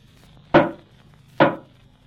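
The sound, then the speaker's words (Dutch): Two loud, solid knocks from a door knocker, a little under a second apart, each a sharp thud with a short woody ring-off. No one speaks. “Nee, alleen een klopper. Oh, juist. Je kunt trouwens net zo goed kloppen als bellen.”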